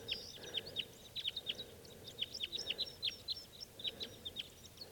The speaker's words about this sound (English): Big flock of crossbills just flew in here. There must be about 6 birds. And they're type 2s.